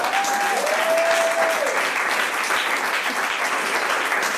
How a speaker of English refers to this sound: You can clap for that.